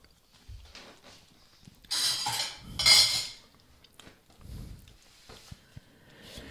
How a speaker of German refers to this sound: Das ist hier so eine Bestecksache am Laufen.